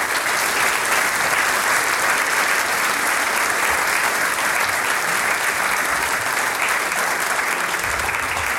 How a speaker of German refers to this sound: Einen Applaus für die Sigrid Herrmann.